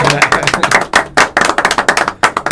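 A small group at a Ducati Club Perugia gathering breaks into applause for the club's vice president, brisk overlapping claps in an uneven, steady patter that stays fairly loud for a couple of seconds.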